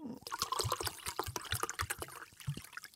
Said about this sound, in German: So, ich mache jetzt mal genau ungefähr die Hälfte von diesem Glas und die andere Hälfte ist jetzt hier Sprudelwasser. Aha, das gebe ich dazu.